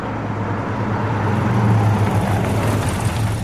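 A taxi comes back and pulls up, its engine a steady low rumble that swells slightly midway and then settles into an even idle. No voices are heard.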